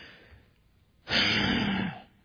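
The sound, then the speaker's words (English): A voice imitates a single loud, heavy huff of breath at a door, a broad breathy exhale lasting about a second after a quiet start. “Maybe a huff, a heavy breathing at the door.”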